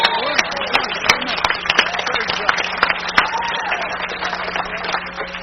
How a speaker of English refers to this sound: Give God a big clap offering right there. Praise God.